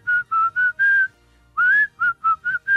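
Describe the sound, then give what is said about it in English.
A person whistles a bouncy tune, a string of short clear notes with a brief pause midway before the melody picks back up. “I can whistle just about any song you give me. Just do whistle while you work.”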